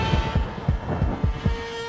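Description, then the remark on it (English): A deep, punchy kick-drum thump, made from a discarded water jug digitally transformed into a kick drum, repeats about six times in a quick, slightly uneven rhythm over a steady tonal hum. “And if you peel back the layers in this song, what you can hear is a discarded water jug digitally transformed into a kick drum.”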